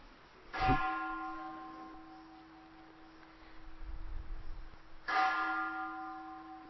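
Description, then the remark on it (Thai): A temple bell is struck twice, several seconds apart, each strike a sharp onset followed by a long, shimmering ring of sustained overtones that slowly fades, with a low hum beneath. “ฟังเสียงระฆังซิดูว่าจิตไหวไหมเขาเลิกตีไปเลยฟังออกไหมเห็นความไหวของจิตบ้างไหมเอาเอตีอีกสองที”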